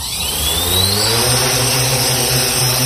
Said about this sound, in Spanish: Son los drones.